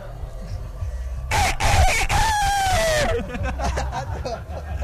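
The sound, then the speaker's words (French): A person imitates a rooster's crow with a loud, wavering vocal call lasting about two seconds, as a first attempt in a rooster-crowing contest, followed by background chatter and laughter from a small group. “Ah, un joli coq pour ce premier essai.”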